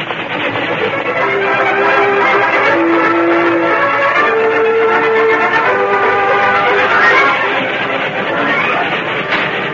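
A steam train's whistle shrieks in drawn-out, shifting tones over a loud, continuous rumble of the approaching locomotive, steady throughout with no voices.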